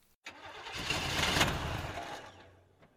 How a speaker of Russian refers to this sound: Правда, мотор их автомобильчика тоже любит фокусничать. Возьмет, да и заглохнет где-нибудь посреди дороги. Вот как сейчас.